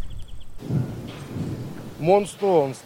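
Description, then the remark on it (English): Deep, rolling rumbles of artillery fire a couple of kilometres away, just over a hill near the front lines in eastern Ukraine, low booms blurring into a continuous thunder-like roar, with brief voice sounds breaking in near the end. “Artillery fire. We're close to the front lines. In fact, the explosions you can hear in the distance are coming from just over the hill, a couple of kilometres away.”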